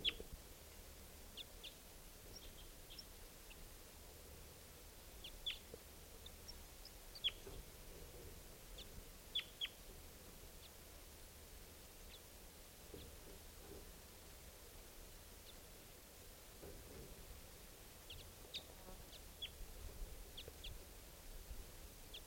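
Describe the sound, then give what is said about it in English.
Faint, scattered chirps and short high calls of wild birds sound at irregular intervals over a steady low background hiss, with no talking. “Wild birds at I don't know which one.”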